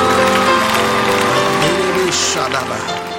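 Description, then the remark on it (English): An audience claps their hands together in a loud, dense burst of applause, blended with sustained musical tones and voices, fading slightly toward the end. “Somebody clap your hands.”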